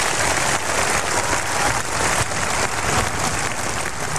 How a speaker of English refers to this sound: If you can hear him through the applause